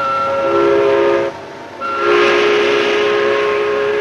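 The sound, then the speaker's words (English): A steam factory whistle blows loud in two long blasts, a short pause between them, its rich droning tone carried on a breathy hiss of steam. No one speaks. “Bursts of steam escape from a factory whistle.”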